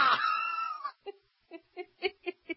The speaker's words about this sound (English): Can we hear that again? Cobra! Oh, I would have screamed twice as loud as that.